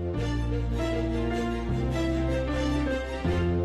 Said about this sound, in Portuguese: Vinheta de trânsito a essa hora, pode saber, é acidente.